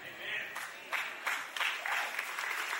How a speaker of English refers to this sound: Now you're clapping, but I'm confused because it's kind of like stand on your right foot, stand on your left foot.